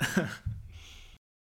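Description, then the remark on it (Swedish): A person chokes after inhaling down the wrong pipe: a sudden sharp gasp catches in the throat, followed by a short choked sputter and a raspy, breathy exhale, then it cuts to silence. “Du vet när man andas in i fel strupe.”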